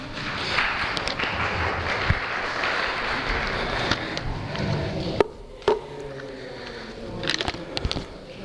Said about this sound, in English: Well done, people. Round of applause to you all, I think.